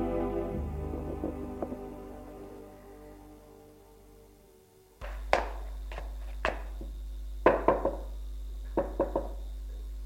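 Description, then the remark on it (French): A servant in livery knocks on the door of a count's study in Saint-Germain: after a soft, fading background, a series of sharp knocks in small irregular clusters, fairly loud over a steady low hum, with no one speaking. “Domestique a frappé à la porte.”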